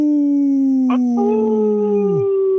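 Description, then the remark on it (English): Wolf howls, long and mournful, with one drawn-out wavering cry gradually falling in pitch while a second, higher howl joins partway through; loud, with no talking. “Hey, this portion is brought to you by Hauling for Wolves, protecting wolves for future generations.”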